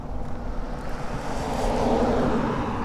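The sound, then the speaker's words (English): A steady roar of cars driving by in Crescent, Iowa, its broad rushing noise swelling louder in the second half as a car goes by. No one speaks. “Cars driving by.”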